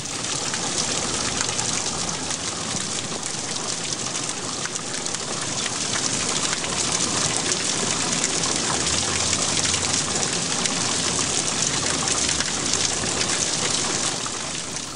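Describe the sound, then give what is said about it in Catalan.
Steady, heavy rain pours down continuously, a dense hiss of countless drops spread across the whole range, loud with no pauses or voices. “De sobte van aparèixer uns núvols negres com el carbó i va començar a ploure.”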